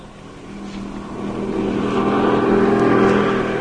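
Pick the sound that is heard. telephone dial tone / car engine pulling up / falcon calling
car engine pulling up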